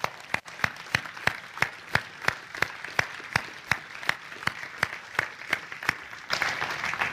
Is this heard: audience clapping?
yes